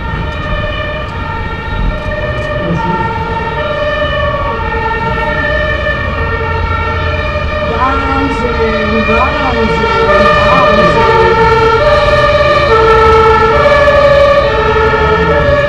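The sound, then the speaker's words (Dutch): A fire engine siren blares loudly and continuously, its layered tones holding steady with brief sweeping pitch glides midway, while faint voices murmur underneath. “Nou, de herrie is in ieder geval van de brandweerwagen”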